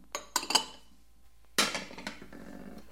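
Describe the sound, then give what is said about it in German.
Ceramic dishes clink and clatter as stacked crockery is handled, a few sharp knocks early, then a longer rattling burst of plates settling against each other, fairly loud. “Und damit sind wir beim Geschirr.”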